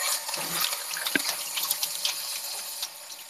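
Steady running tap water splashes into a sink as hands are rubbed and rinsed beneath it, a continuous hiss with small irregular splashes and one brief thump.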